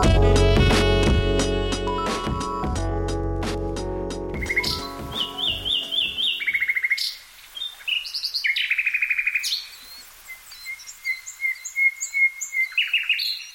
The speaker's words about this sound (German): Idyllisch, oder? Vogelgezwitscher, das Rascheln der Blätter im Wind und der Geruch von Blumen. Dinge, die man in unserer Klimazone mit Gärten verbindet.